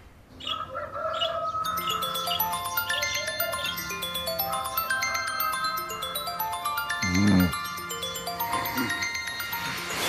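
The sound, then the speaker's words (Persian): A telephone rings early in the morning with a bright, electronic melodic ringtone, its chirpy tones repeating steadily and fairly loudly for the whole stretch, with no one speaking over it. “خودم جواب بده تلفن سا غلام، ساکت کن اونو، قطع غلام، قطع کن اونو دیگه بابا”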